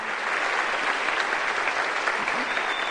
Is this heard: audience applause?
yes